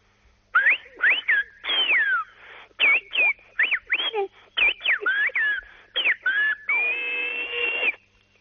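A loud whistled-language phrase, whistling the greeting 'muy buenos días desde fin de semana de COPE', of many rapid gliding notes rising and falling in pitch, broken into short syllable-like bursts and ending on a long held tone, performed alone without any talking.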